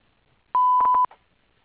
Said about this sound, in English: Please leave a message at the beep, and I'll get back to you as soon as possible.